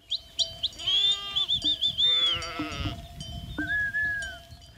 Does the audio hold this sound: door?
no